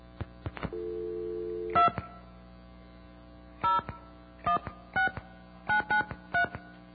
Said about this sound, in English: Okay, dial tone.